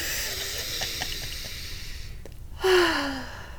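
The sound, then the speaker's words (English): A deep, audible breath drawn in, a long airy hiss with a short sharper inhale near the end, and no talking. “I'm gonna take a big deep breath in.”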